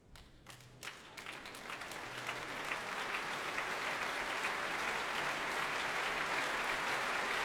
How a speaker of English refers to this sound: And the applause is for Sir John Tomlinson, for the Kundry of Katharina de Lyman, and for the Halle's music director, Sir Mark Elder, here to conduct the last act of Wagner's final opera, Parsifal.